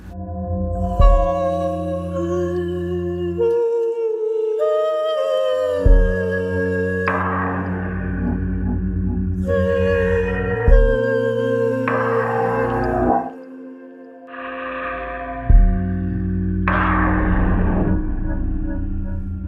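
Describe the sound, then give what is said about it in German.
Eerie underwater music from a Danish music project in which musicians play underwater on specially developed instruments such as a water organ: sustained, wavering organ-like tones in shifting chords with a hazy, watery shimmer and a faint sung line drifting over them, swelling in soft, repeated phrases. “aber natürlich das Zusammenspiel aus extra entwickelten Instrumenten wie der Wasserorgel und diesem besonderen Gesang unbedingt mal hören.”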